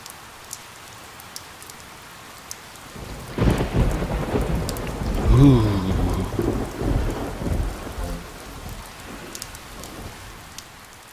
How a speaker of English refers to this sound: Rainy day, thunder.